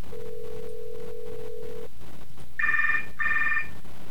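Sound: cell phone ringing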